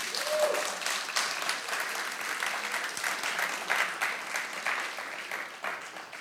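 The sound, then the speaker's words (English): A church audience breaks into sustained, dense applause, celebrating their denomination's change in policy on who can be married in the church; many hands clap steadily for several seconds at a fairly even level, with no one speaking over it. “And it's worth a big rousing round of applause.”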